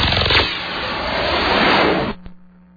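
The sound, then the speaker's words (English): A car engine starts up and runs loud for about two seconds, then cuts off abruptly, followed by a single click and a low lingering hum. No one speaks. “Every time you start your car, your engine creates friction between the moving parts.”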